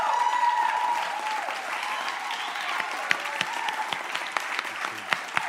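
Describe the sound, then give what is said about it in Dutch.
Sustained applause from a church audience for their pastors and leaders, a dense steady wash of many hands clapping with sharper individual claps popping out, plus a few faint cheers mixed in throughout. “Hebben jullie je pastors, je leiders, geven jullie die wel eens een heel groot applaus, of niet?”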